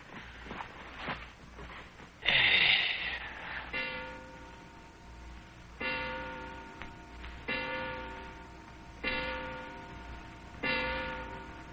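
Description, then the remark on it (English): A wound mechanical clock strikes with five evenly spaced, resonant chime tones that ring and fade, after a few sharp clicks and a brief rattling whir of the mechanism. Moderately loud, with no talking. “I just wound the clock.”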